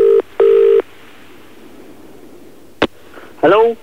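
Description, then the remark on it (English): A phone ringback tone buzzes in two quick bursts on a call to a man, followed by a sharp click as the line picks up and he answers briefly, heard over a quiet line. “calling the person that you unwittingly had text, how's your father with, last night.”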